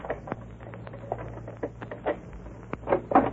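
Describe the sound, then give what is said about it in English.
A key rattles and clicks in an ordinary back door lock, a series of small metallic taps and scrapes ending in a couple of louder clunks as it turns, over a faint steady hum. “Yes, it's a common, ordinary back door lock. I'll try this key.”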